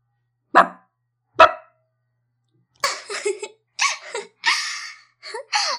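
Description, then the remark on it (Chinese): A person mimics a dog with two short, sharp barks spaced about a second apart, fairly loud, followed by a voice speaking in several bursts. “学两声狗叫，我听听。”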